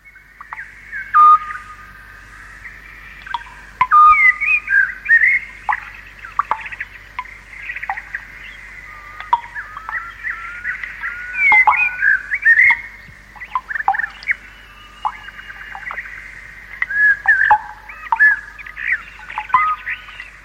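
A nightingale sings alone in bursts of varied, rich whistled phrases and quick trills, pausing briefly between them over a faint, steady low hum, recorded on a first cassette to try out a tape recorder.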